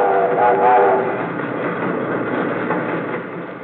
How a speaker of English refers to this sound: Night and day, all I've seen since I've been here are trains rolling westward.